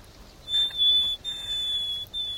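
A nightingale gives its whistled position call, which always opens its song: a series of long, thin, steady high-pitched notes with brief gaps between them, clear against a quiet background.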